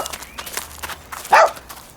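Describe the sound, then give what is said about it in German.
A single sharp dog bark rings out clearly near the end, preceded by faint scattered clicks and rustling in an otherwise quiet space. “Dieses letzte Bellen, das kommt mir bekannt vor.”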